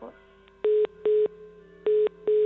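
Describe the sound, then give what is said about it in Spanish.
A telephone busy tone after the other party hangs up beeps in a steady on-off rhythm, four short even pulses of a single pitch, clear, over a faint line hum with no talking. “Ha colgado. Vamos a llamarla otra vez.”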